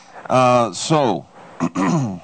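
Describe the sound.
A man, hoarse from pollen, clears his throat several times in quick succession, voiced and raspy, with short pauses between each rough, gravelly push of breath.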